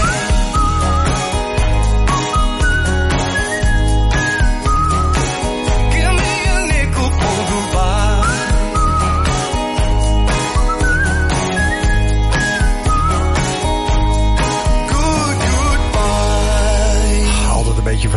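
A bright whistled melody weaves through a full, loud pop track with steady beat and bass, the whistling rising and falling in clear tuneful phrases over the music without any voices.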